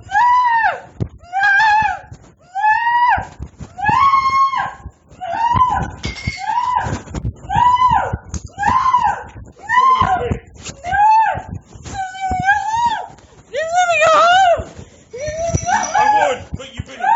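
A man screams over and over in loud, strained bursts, roughly a dozen anguished cries in quick succession with brief gaps between them, raw throughout.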